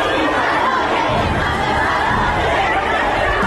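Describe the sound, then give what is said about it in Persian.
School students in Tehran Pars, Tehran, shouting protest chants against the leader of the Islamic Republic, a dense, continuous roar of many voices, loud and unbroken throughout with no single voice standing out. “این فریادهای اعتراضی دانش آموزان مدرسه‌ای در تهران پارس.”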